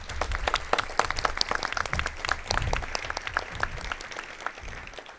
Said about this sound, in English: If they are in the room, we're going to give them a round of applause.